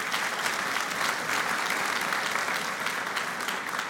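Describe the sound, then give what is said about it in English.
An audience applauds steadily for the Bible as the book of God that still lives. A dense, even wash of many hands clapping, sustained without a break for several seconds with no voices standing out. “Anyway, we want to clap for that.”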